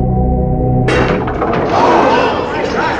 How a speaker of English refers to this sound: I hear something. What? What is that noise? Do not fret, my dear. It's only the wind.